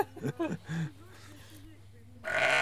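Sheep bleat in a barn: a few loud, wavering bleats, then softer quavering calls, ending in a burst of broad rustling noise.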